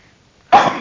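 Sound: sneeze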